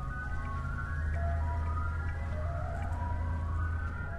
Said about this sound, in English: Ice cream trucks make their evening rounds near Our Lady of Guadalupe Monastery.